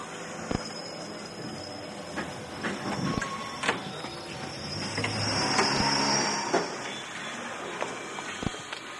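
A steady rumbling clatter of a metro train carriage in motion, with sharp periodic clunks every few seconds like wheels over rail joints and a faint high whine overhead. No one speaks.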